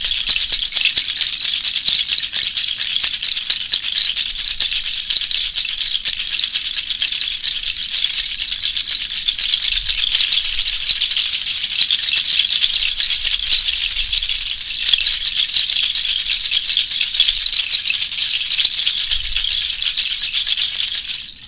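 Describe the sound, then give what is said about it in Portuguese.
Rattles shaken steadily and continuously for about twenty seconds during an energy-cleansing meditation, a dense, hissing swish of bright, high-pitched grains with no pauses and no voices. “Permita que o barulho das charcas quebre os padrões instalados.”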